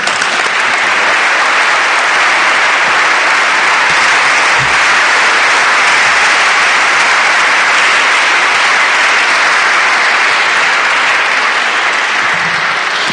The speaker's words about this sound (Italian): Io lo ringrazio ancora e vi chiedo un altro applauso, perché...